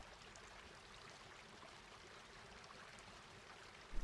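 Steady flowing water of a stream rushes and burbles continuously at a moderate, even level, with no voices and no pauses; a brief louder splash surfaces at the very end.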